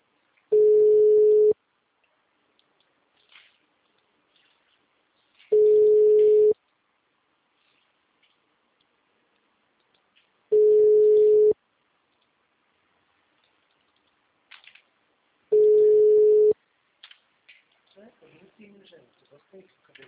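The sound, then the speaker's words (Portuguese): Four steady, mid-pitched ringback tones sound from a telephone line as a call is placed to a client, each lasting about a second with roughly four seconds of silence between them. Faint, indistinct voices come in near the end. “Peraí que eu tô ligando para um cliente.”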